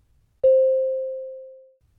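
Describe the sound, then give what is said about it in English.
A single mid-pitched electronic beep rings out with a sharp onset, then fades smoothly over more than a second, heard alone against silence with no voices. The beep signals the listener to start speaking in a role-play exercise. “Let's play the role of So-yoon. Start after the beep.”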